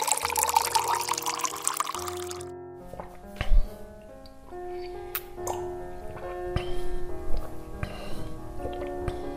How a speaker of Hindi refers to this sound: फिर exam hall के बाहर आते ही एक ग्लास ठंडा पानी पीती।